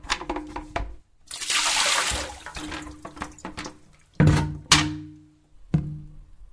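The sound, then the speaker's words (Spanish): Water splashes out in a rushing pour as containers that collect water are tipped over, followed by several hollow thunks and clatters as they are set down, fairly loud with no talking. “Dando vuelta a todo lo que junta agua, no hay dengue.”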